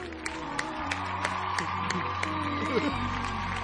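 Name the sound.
audience applause and cheering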